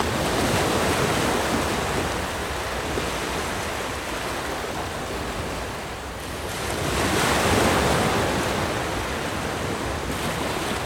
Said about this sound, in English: The sea was calm. Then, one day, there were big waves.